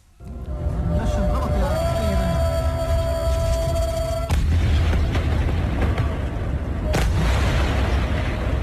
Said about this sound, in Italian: Ecco, avete sentito le voci, i suoni di Gaza, le esplosioni che continuano in questi giorni. Ogni giorno poi vediamo sui siti la mattina le immagini di questi lampi di fuoco nella notte.